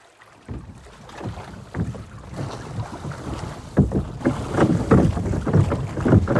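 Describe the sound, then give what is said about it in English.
A small boat moves through water on a short ride from Badagry to an island, with choppy splashing and sloshing over a rushing, wind-buffeted background that grows steadily louder toward the end. No one speaks. “A short boat ride away from Badagry is an island called Kiberefu, or the Point of No Return.”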